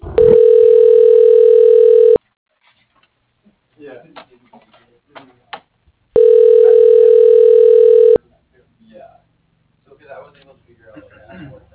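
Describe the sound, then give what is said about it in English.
Two long, steady telephone ringback tones, each about two seconds, heard while a call is transferred to the operator from an automated phone menu, separated by a pause filled with quiet talking. The buzzy, mid-pitched ring is loud and even, and voices resume after the second ring. “Please stay on the line while your call is transferred to the operator.”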